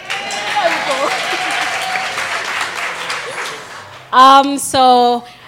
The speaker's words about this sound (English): Welcome to the first edition of the One Tribe Live talk show. Insert delighted applause.